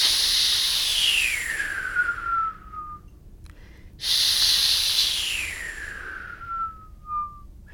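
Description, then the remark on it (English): A person demonstrating how to whistle makes two long, breathy hisses from an H sound, intensifying the hiss, each loud and airy, sliding downward in pitch until it narrows into a faint whistle-like tone before fading. “And what you want to do is to intensify the hiss noise that you get from the H.”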